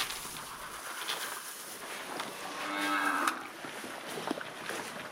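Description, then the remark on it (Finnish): A dairy cow lets out a drawn-out moo in a busy barn at feeding time at the Viikki research farm in Helsinki, Finland, with clattering, shuffling and a steady hum of activity around it; no one speaks. “Helsingissä Viikin Koettilan navetassa on menossa ruokinta-aika.”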